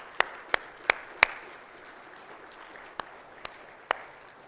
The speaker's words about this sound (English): I would like to take this moment to honor your sacrifice. So would you please give these people a round of applause?